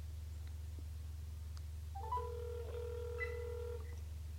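Over a steady low electrical hum, a telephone line plays sustained electronic tones for about two seconds as a toll-free 800 number is dialed, overlapping pitches like a dial or ringback signal, fairly quiet and with no voices.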